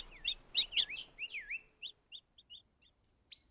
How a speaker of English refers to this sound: After 10 days, the chicks' feathers have grown. The young thrushes chirp loudly when they hear their parents near the nest.